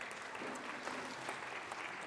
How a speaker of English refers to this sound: Thank you so much. Give them a big clap. Well done.